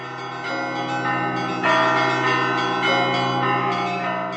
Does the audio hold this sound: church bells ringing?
yes